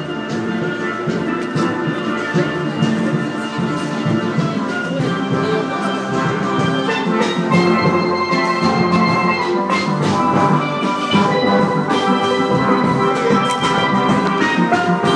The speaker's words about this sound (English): Hey, that's the sound of... That's just a steel band. Hang on, let's go and have a listen.